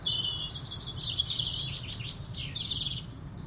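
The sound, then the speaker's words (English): Bright, high-pitched birdsong of birds courting at the beginning of the mating season, with rapid chirps and trills running continuously over a low, steady background rumble, with no voices. “Beautiful bird song again, this one.”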